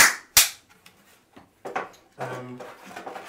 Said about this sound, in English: Clap.